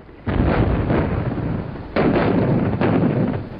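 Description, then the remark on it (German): Three heavy artillery shell explosions burst out one after another, each a loud, deep boom that trails off into a long rumbling roar. No voices are heard. “Wildes, donnerndes Krachen, das den Steinboden erschüttert, reißt die Schlafenden auf, wirft sie in die Höhe.”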